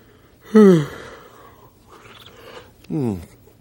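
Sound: exaggerated yawn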